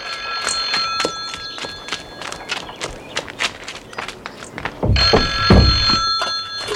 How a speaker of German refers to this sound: Ach, das Telefon. Wieso geht Tante Mathilda nicht ran?